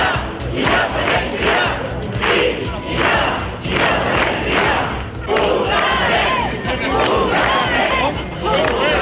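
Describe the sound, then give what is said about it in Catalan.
A large crowd of more than 600 Lloret de Mar residents shouts and chants together in loud, rhythmic waves at a Wednesday evening rally in the Plaça de la Vila supporting the institutions of Catalonia. Bursts of massed voices rise and fall every second or so, with scattered yells between, continuous throughout. “Aquests han estat els crits que s'han acostat a escoltar, volem dir, aquest dimecres al vespre a la plaça de la Vila.”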